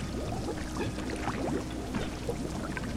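Gallons of piping hot tar pour steadily and heavily into a mine, a continuous gush with bubbling, gloopy splashes throughout, no voices present.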